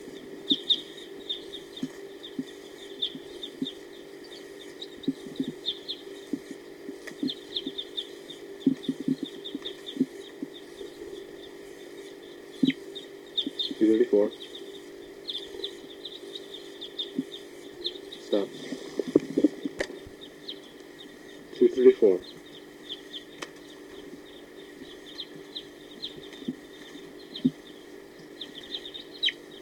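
Chickens, birds numbered 234, 236, 238 and 239 being recorded for testing, cluck in short, irregular bursts over a constant low mechanical hum, with frequent small clicks and taps scattered throughout and a few louder flurries partway through.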